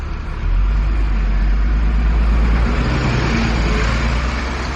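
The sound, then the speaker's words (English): Loud, steady road traffic at a bus stop where a commuter catches the bus to work, with a heavy bus engine rumbling beneath a continuous wash of passing-vehicle noise. No voices are heard. “Like many people I know, I catch the bus to work. And this is my stop.”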